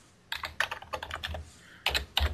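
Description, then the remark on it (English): Rapid clicking of keys on a computer keyboard, a burst of quick keystrokes, a short pause, then a few more taps, clear with no voices. “Yeah, all I hear is you typing.”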